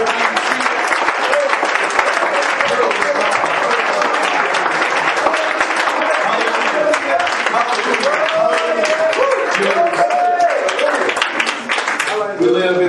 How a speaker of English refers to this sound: If you're thankful to be a friend of God, can you clap your hands once again?